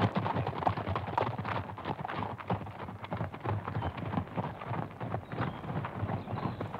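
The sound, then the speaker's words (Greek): Rapid, rhythmic hoofbeats of an aristocrat's horse galloping swiftly away, a steady drumming of thuds over earth, continuous and fairly loud throughout, with no voices. “Έτρεμε η γης κάτω από τον καλπασμό τα λόγου του.”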